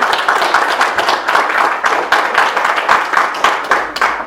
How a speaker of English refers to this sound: And we also want to thank everybody who helped out with the Y Camp this summer. So if you could just give a little round of applause for those folks.